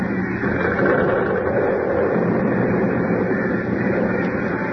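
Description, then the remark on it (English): Harris Hall, a building whose foundation was undermined, collapses and caves into a hole in a heavy, continuous rumbling roar, dense and low-pitched, holding steady at a loud level for the whole stretch with no voices. “Harris Hall. Caved right in the hole.”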